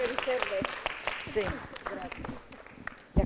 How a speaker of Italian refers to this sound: Siamo benissimo, li accogliamo con un applauso. Prego.